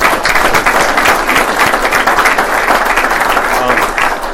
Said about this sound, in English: So big round of applause again for all the other awardees.